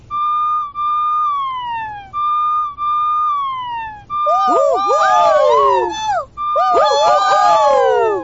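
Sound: fire truck siren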